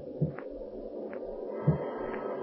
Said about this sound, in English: Listen to the rising storm and the bump of the oak limb on the roof.